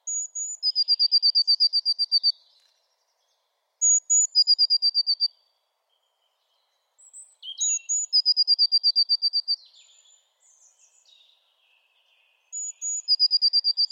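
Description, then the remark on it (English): A bird sings the same short phrase about four times: a couple of very high, thin notes followed by a quick, shimmering trill of rapid repeated notes, with brief pauses between phrases and no talking. “But a couple of very high notes, then a little shimmer after it.”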